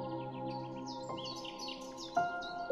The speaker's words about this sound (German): Mit einem Mal dringt dir das Zwitschern eines Vogels ins Ohr. Es ist eine kleine Blaumeise, die auf einem Baum rechts neben dir sitzt und dich neugierig anschaut.